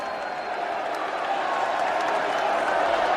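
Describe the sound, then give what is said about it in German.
A large crowd roars steadily throughout, a dense wash of cheering and shouting voices that stays loud and constant, with scattered clapping mixed in, as a man steps onto a podium built for him at the carnival square in Bouaké, in oppressive heat. “Unter großem Jubel betritt er ein Podium, das für ihn errichtet wurde.”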